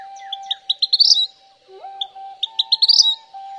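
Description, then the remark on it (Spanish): A passerine songbird sings two bright, rapid runs of chirps that speed up and rise toward the end of each phrase, clear, with a faint steady hum underneath. “Es importante que no confundamos esta ave con el famoso petirrojo.”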